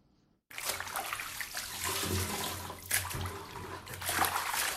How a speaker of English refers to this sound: uses a bucket to transfer water she used to bath from her tub to her toilet.